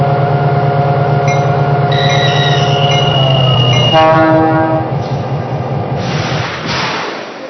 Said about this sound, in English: on track number 2, train number 6, the Hummingbird.